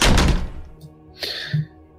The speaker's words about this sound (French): Et tu entends la porte claquer.